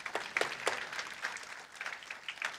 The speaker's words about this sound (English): Doesn't God deserve a clap offering for that?